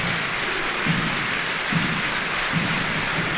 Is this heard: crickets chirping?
no